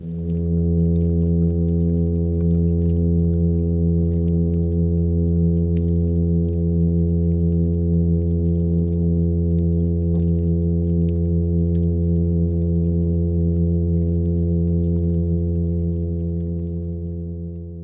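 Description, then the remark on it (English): A midshipman fish's low, foghorn-like call: one steady, buzzy drone rich in harmonics, holding a constant pitch and loudness for nearly eighteen seconds before easing slightly at the end. The fish has luminous spots made by bioluminescent bacteria. No voices. “And so this is a glowing fish that sounds like a foghorn, kind of.”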